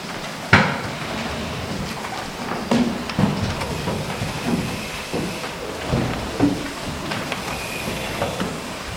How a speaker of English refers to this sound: We need to move the chairs back.